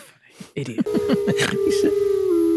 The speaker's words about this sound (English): Oh, a wolf.